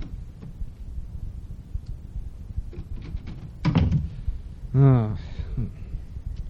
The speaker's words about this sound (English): Well, I guess he's over here then. Just open the door here.